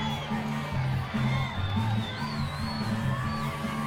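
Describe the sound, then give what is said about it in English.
A crowd of scorpion creatures screams, laughs, whoops and cheers together as they dance around at night, a lively, sustained din, with high shrieks rising above a steady rumble of shouting. No clear words stand out. “And for a moment, all of the scorpions freeze, and then they start to scream and laugh and dance around as the darkness flies out into the night from Platt.”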